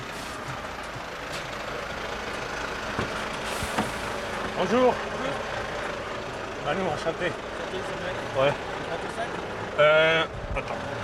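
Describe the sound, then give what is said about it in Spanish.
A French truck driver's truck engine idles with a steady, low rumbling drone throughout as its door is opened, while a few short bursts of voices break in over it, the loudest near the end. “Quien me abre la puerta de ese camión es”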